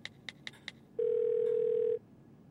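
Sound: telephone call ringing tone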